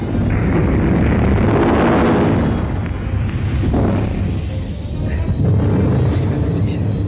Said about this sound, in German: Die Schutzschirme wehren die Raketen ab. Die Bomben explodieren. Ein Feuerball. Ein riesiger Feuerball.